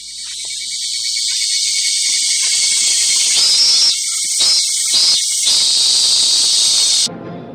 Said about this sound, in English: Can you hear the cicadas?